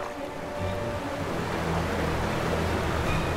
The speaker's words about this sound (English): At the end of the drain was a waterfall.